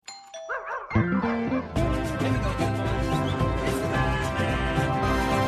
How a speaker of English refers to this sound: Doorbell rings, he drops a bag outside.